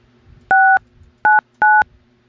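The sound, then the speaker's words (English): Three loud touch-tone keypad beeps, dialed while transferring a telephone call, each a steady two-pitched tone, the first slightly longer, pressed in quick succession over a faint low hum, with no one speaking. “All right, hang on. I'm gonna transfer you.”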